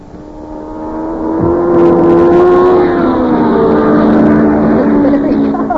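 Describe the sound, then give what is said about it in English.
A race car engine roars past as it comes around a speedway track again, its buzzing, harmonic whine swelling louder within two seconds, dipping slightly in pitch, then holding a steady drone to the end. “There are a couple of fellers ahead of us right now, though.”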